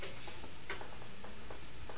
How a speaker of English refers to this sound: Oh, there's a clock right there.